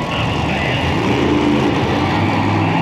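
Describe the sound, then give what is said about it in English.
A monster truck's heavy engine rumbles low and steady, loud, as a CBS Sunday Morning reporter drives it slowly at a Monster Jam event in Tampa, over a constant wash of broad background noise. “The guy from the TV show is going really slow in that monster truck.”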